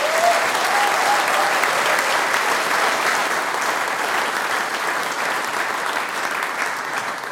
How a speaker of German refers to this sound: Dieser Applaus gehört jetzt euch. Danke, dass wir da sein haben dürfen.